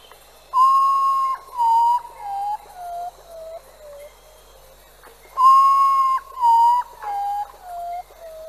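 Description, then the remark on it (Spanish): A potoo sings two mournful phrases, each a run of five or six clear, wailing whistled notes that step steadily downward in pitch. The phrases are separated by a short pause, with no voices. “Su canto es muy particular y la gente lo relaciona con los de una persona moribunda.”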